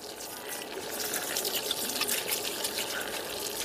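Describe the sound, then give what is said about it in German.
A camper van's water tap runs steadily for a few seconds, a continuous hissing splash of water pouring out at an even volume. “So klingt Björks, oder beziehungsweise Jorges Camperwasser.”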